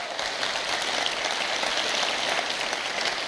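Sustained applause from a crowd, a dense, steady wash of many hands clapping at an even loudness throughout, with no voices standing out.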